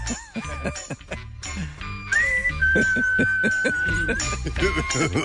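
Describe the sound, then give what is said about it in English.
Someone whistles a short, steady tune of a couple of held notes while other people keep chattering and laughing underneath. “Isn't that the whistle?”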